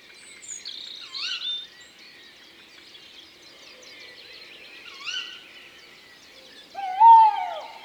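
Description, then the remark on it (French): A tawny owl calls outdoors in a wood around 5 a.m. on 22 May, the male's call and the female's sharp cries, its loudest cry ringing out near the end, while fainter bird chirps, including a blackbird's alarm calls, and a steady insect-like hiss fill the background. “Il a raison de se méfier de la hulotte.”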